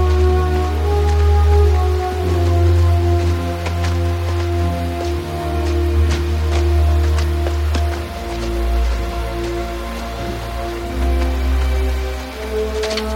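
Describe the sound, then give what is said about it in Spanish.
Steady heavy rain falling at night at a fort, with scattered sharp drop impacts, layered over a deep, sustained low rumble that continues throughout without any voices. “La oscuridad y la lluvia dificultan la búsqueda.”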